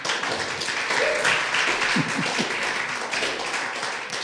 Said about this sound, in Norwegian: Gi deg en applaus, da.